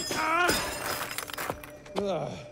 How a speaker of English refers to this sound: The guardians swarm Wild Knuckles. In slow motion, he punches and kicks them apart, scattering metal pieces. He repeatedly stomps on the last one.